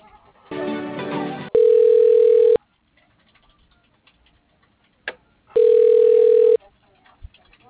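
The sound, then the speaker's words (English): A phone line rings twice as a call is put through to voicemail: two steady, loud ringback tones about a second each, separated by a few seconds of near silence, with a short burst of muffled telephone voice just before. “Do you want me to put you through his voicemail?”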